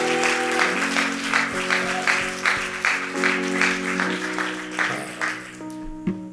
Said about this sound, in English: Hey, everyone looking up. Why don't we stand? And can we just give that person a massive round of applause.